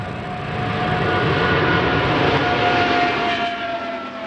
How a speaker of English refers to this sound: Boeing completed the maiden flight on the world's largest twin-engine jetliner. It is a 777X.